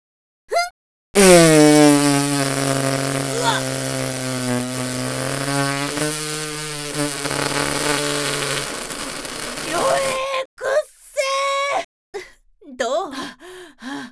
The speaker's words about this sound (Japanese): じゃあ行くわよ、出すわよ。必殺毒ガスおなら。